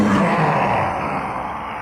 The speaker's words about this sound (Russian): Оскорбленный вой, рычание и алчное щелканье зубов были ему ответом.